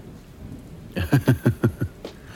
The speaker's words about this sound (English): I was driving down Sunset when the rain started.